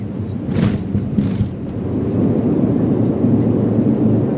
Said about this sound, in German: Dann rast die Maschine knapp an einer Felswand vorbei auf die schneebedeckte Landepiste zu und setzt Sekunden später, zur großen Erleichterung aller 50 Passagiere, sicher auf dem Boden auf.